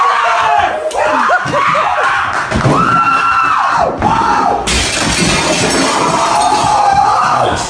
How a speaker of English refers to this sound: Nothing like that big front plate glass window and going right through it, boy.